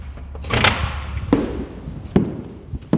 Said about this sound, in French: Eh bien, pour ma part, comme vous pouvez l'entendre, j'ai poussé la porte d'un de ces monuments en danger. C'est d'ailleurs le site qu'Emmanuel Macron a choisi de visiter demain pour le week-end du patrimoine. La villa Viardot à Bougival